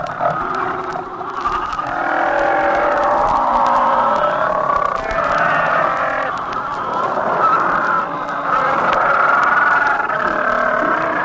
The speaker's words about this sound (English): If you were to approach the tiny village of St. Paul, headquarters of Alaska's seal industry, a strange and disturbing sound would greet your ears. The mating sounds of 3 million seals on the rookeries of the Pribilofs.